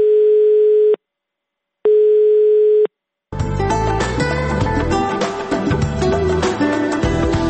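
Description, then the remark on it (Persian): Two long, steady telephone line tones on a call to Radio Azadi's automatic answering line, each about a second with a brief silent gap between them, then dense music abruptly takes over and continues loudly. “امیدواریم کسانی که در مورد گمشده ها معلومات داشته باشند، پیام هایشان را در تلفن اتومات رادیو آزادی ثبت نمایند.”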